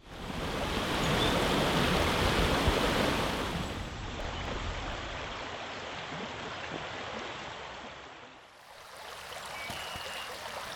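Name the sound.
flowing river water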